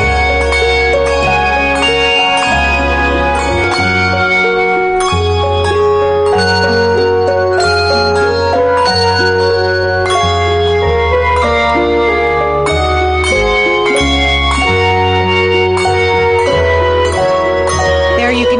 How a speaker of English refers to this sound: Now, are you hitting the bells? Are you taking them up? No, you're picking them up and ringing them.